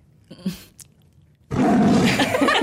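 A tiger's roar bursts in loud after a moment of quiet murmuring, a broad, rumbling growl that sustains to the end.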